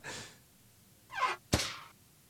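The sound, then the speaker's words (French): A couple of airy, breathy swishes lead into one sharp, heavy bang, like a door slamming shut, followed by a brief noisy decay. No one speaks. “Une porte qui se claque.”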